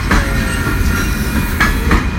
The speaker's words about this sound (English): The train's a long one. It's been on this track for a while.